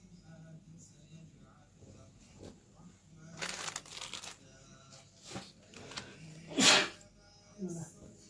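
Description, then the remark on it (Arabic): One sharp, loud sneeze bursts out near the end during a lecture on contracts, standing out against a quieter background of rustling and shuffling noises. “رحمك الله.”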